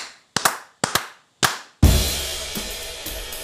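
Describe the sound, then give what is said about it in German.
A few sharp hand claps clapping in a count of "1, 2, 3 and 4" in a loose rhythm, some landing as quick doubles, followed at once by a loud burst of full, sustained sound as music kicks in. “Warte mal, klatsch mal ein, bitte.”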